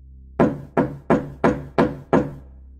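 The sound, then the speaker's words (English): Six heavy, evenly spaced bangs as a man pounds loudly on a door, each with a short booming decay, followed by a brief quiet moment. No voices. “The man then started to loudly bang on my door.”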